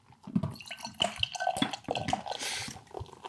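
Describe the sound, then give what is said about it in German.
Carbonated party beer is poured into a glass, with wet splashing and gurgling bursts giving way to a rising hiss of fizzing foam. No one speaks. “So klingt es beim Eingießen.”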